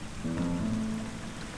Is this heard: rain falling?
yes